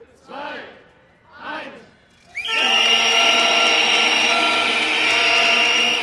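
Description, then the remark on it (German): In Stuttgart, at a weekly Monday 7 pm protest, a countdown ends in two short shouted calls, then an abrupt, deafening wall of crowd protest noise with shrill whistles and horns blaring continuously, in front of the first construction site at the railway station, where a side wing is to be demolished. “Ein sehr lauter Protest in jeder Beziehung, direkt vor der ersten Baustelle, dort wo jetzt einer der beiden Seitenflügel des Bahnhofs abgerissen werden soll.”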